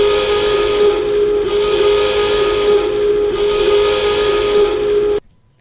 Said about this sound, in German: Alarm ist es, das ist schon mal richtig. Alarm ist es, genau.